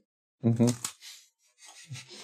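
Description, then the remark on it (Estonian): Crackly crinkling of plastic packaging into the microphone in irregular bursts, briefly overlapping a voice near the start, then continuing as a softer rustling scrunch. “Nüüd saame üle enda krõbistada vaikselt.”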